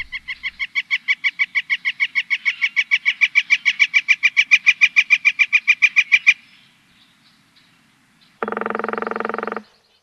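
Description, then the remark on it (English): A northern flicker gives a long, rapid series of loud keck notes that build in volume for about six seconds, then stop; after a pause comes one short, harsh buzzy burst. “The flicker's call sounds like a keck, keck, keck, keck, keck, keck, keck.”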